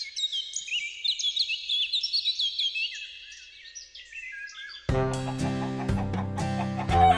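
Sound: quail calling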